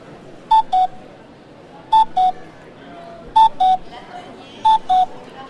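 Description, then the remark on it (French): A cuckoo calls four times, each a clear two-note 'cu-coo' falling in pitch, repeated at a steady, even pace over a soft background hum. “Le coucou.”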